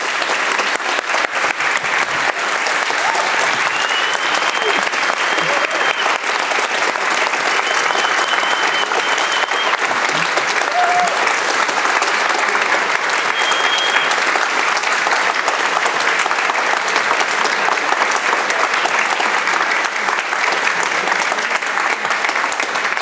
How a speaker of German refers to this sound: Wunderbar, ja, nochmal riesenfetten Applaus für euch beide.